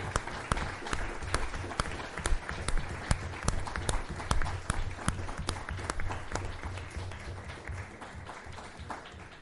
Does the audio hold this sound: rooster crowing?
no